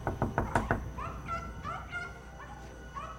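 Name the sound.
knocking on a door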